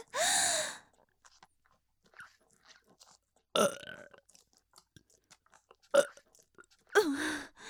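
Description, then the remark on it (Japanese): Four loud, croaky burps forced up from the stomach, separated by quiet pauses; the first and last are long and drawn out, the middle two shorter and more abrupt, with faint mouth noises in between. “胃袋から汚いゲップ押し出されて。”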